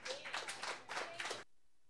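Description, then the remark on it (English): A short burst of audience applause for the next performer being introduced, fairly loud, with clapping that swells in a few waves for about a second and a half before cutting off abruptly into silence. “Okay, our next performer deserves a big round of applause.”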